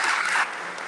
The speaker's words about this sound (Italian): vi facciamo un grande applauso.